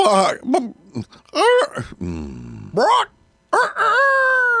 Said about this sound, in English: I'll be. That's one talented rooster.